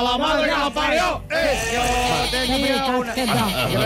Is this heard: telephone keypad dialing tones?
no